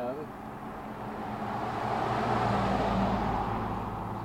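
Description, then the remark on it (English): A car drives past, its broad road rumble swelling to a peak about midway and then easing off, with a faint voice briefly audible at the start. “Which is not to be confused with the car that just went by.”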